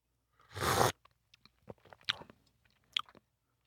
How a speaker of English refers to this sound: It tastes a lot better than smells. Well, you're very brave for drinking it not just once, but several sips. Well, it's really not half bad.